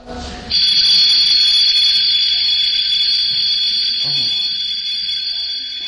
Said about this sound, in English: An alarm clock. What does that mean when you hear that? Yeah. Wake up.